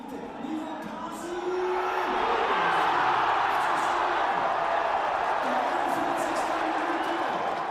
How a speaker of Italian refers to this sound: Questi sono i suoni di gioia dei tifosi della squadra della cittadina dell'Oberland bernese, che oggi ha matematicamente vinto il titolo di campione svizzero senza giocare, nonostante abbia perso gli ultimi due